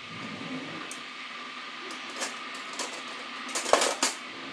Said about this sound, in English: You can hear the kettle boiling again. A wash kettle never boils, correct?